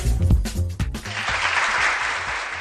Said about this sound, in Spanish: Y este aplauso al semáforo en verde porque el equipo vallisoletano de Fabionelli también ha dado una gran sorpresa este fin de semana en el Campeonato de España de Natación Artística de Invierno celebrado en la piscina de Parque Sol,